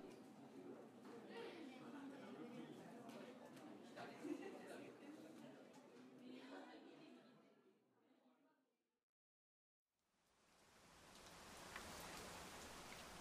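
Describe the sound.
Muffled voices and movement fade into a moment of silence, then steady rain begins, a dense, even hiss of falling drops that continues fairly loud to the end.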